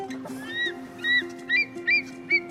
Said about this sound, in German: Der Adler kommt. Guck mal da hoch. Voller Anflug. Das ist der Adler. Das ist Action.